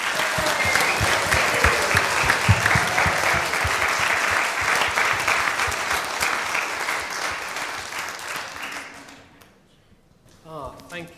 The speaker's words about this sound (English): Let's give all our wonderful contestants a round of applause.